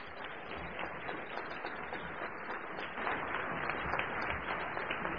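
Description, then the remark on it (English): A Forum Club audience applauds steadily to welcome a general, a dense wash of many hands clapping that holds an even level and swells slightly louder partway through, with no talking over it. “In order to keep this very short, I would like to move right along and end up by saying, I think all of us should join in welcoming with a Forum Club applause our general who has been so much to the peace of this country.”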